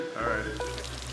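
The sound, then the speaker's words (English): A prison toilet flushes with a sudden, loud rush of hissing water that starts abruptly and holds steady, a low mechanical hum running beneath it. “The toilets flush loudly and often.”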